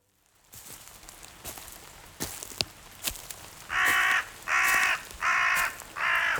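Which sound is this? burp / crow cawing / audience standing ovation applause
crow cawing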